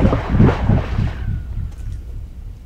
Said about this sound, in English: This is a good sound. You'll like this. Mark picks a rock up off the ground and he throws it into the well, just a little pipe sticking out of the ground. He was right. I liked the sound.